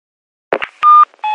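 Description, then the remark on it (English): A brief click and rustle, then two loud electronic tones from an answer phone before a message. They are steady and separated by a short gap, with no voices. “A message on an answer phone.”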